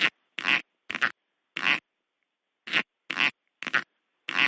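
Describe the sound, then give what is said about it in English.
A snake's cloacal popping: eight short, squeaky, fart-like bursts of air expelled rhythmically from its cloaca. They come in a loose rhythm with a brief pause midway, each sharp and fairly high-pitched against silence. “It produces a very high-pitched, kind of squeaky sound.”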